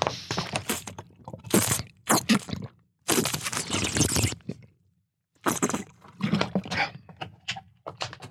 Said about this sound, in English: The other thing that's been funny recently, let me have a swig of water. My voice sounds like Billy Madison now.